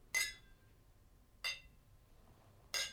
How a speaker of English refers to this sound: We can even get a three-way cheers on this one.